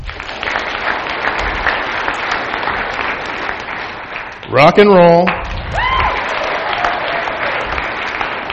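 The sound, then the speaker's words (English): A large crowd claps steadily and loudly for several seconds, a dense unbroken patter, while a man briefly calls out over it midway; the audience is answering by applause whether they like country music. “By a show of applause, how many people like country music?”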